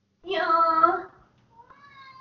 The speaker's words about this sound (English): Did you hear just now? I forgot you were in here. Hold on, I need to let a kitty out.